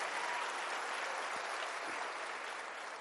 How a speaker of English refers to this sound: Give a big hand clap to the Lord if you believe that.